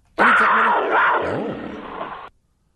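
A single loud big-cat roar, rough and growling, lasting about two seconds with a wavering pitch, starting abruptly and cutting off sharply, with no other sounds around it.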